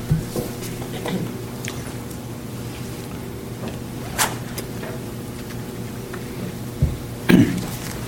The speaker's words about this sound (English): So general comments are the... let me get my glass of water.